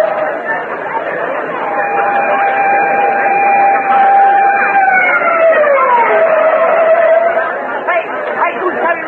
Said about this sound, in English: On shore, final preparations are in progress as flash lamps light up the scene and police hold back the milling crowd.